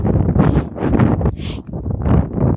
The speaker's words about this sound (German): Jetzt haben wir ein bisschen viel Wind, natürlich. Ich laufe über die offene Fläche.